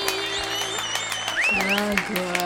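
Scattered, irregular hand claps ring out close by for a couple of seconds, mixed with gliding vocal sounds like excited cheering or whooping.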